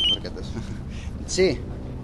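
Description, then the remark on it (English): A cell phone rings with short electronic tones, a high chirp at the start and a brighter warbling tone later, on the dock of the Los Cristianos ferry port on the island of Tenerife, set against a busy background of murmuring voices and ambient noise. “He's discussing the surge of migrants when his cell phone rings.”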